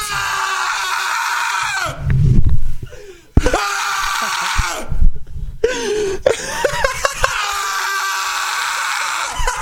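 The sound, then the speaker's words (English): A soundboard clip of a man yelling loudly in long, strained bursts, broken by two short pauses with coughing-like sputters between them, the shouting harsh for nearly ten seconds. “Wait, play one of the ones where I'm yelling.”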